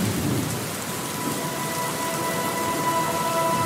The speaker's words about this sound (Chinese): 小薇，小薇，回家吧，外面下雨了，没法去郊游。